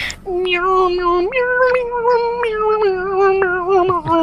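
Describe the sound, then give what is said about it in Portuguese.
A voice sustains an eerie, wavering tone that slides and wobbles like a drawn-out meow, imitating unsettling horror-film music for about four seconds, loud with no other talk. “Fazendo as músicas desconfortáveis dos filmes de terror. Não, eu pensei que era miau, miau, miau”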